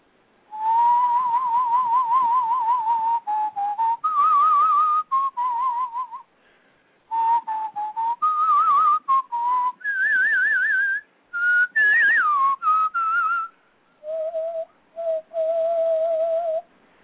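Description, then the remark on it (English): A person whistles a short, wavering melody with vibrato, moving through several phrases with brief pauses between them, imitating the oboe tune that represents Sonia the duck. The whistling is fairly loud. “Sonia the duck was represented by an oboe, and the cat was represented by a clarinet, and, you know, and Sasha the bird was represented by a flute or a piccolo.”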